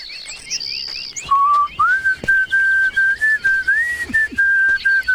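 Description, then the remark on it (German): A hunter walking in a sunny forest whistles a slow tune of long, pure notes, fairly loud, after a brief burst of faint birds chirping in the background. “Du kannst den schön pfeifen.”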